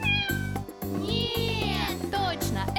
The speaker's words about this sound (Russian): Кошка! Да!